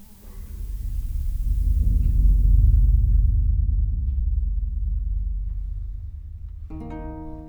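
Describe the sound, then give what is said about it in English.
A long, deep rumble of rolling thunder swells for several seconds and then slowly fades, with a brief tonal sound entering right at the end. “Oh, lad, hear not the rolling thunder, lest it rolleth us.”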